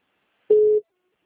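signal or alarm, telephone line tones

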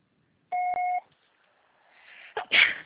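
signal or alarm, answering machine beep

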